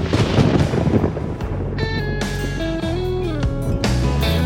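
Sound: thunder rumbling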